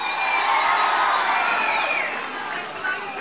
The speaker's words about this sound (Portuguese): Saudar também esse outro grande governador e ministro do presidente Lula, uma salva de palmas ao amigo Márcio França.